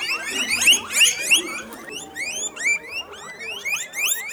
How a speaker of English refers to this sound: I've just walked into the farm's sprawling barn. Aside from three narrow aisles, it's packed wall to wall with mesh cages, each with about a dozen cuy. The din created by 1,300 squeaking cuy is overwhelming.